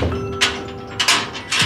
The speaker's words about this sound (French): La porte de la petite pièce brillamment éclairée s'ouvre.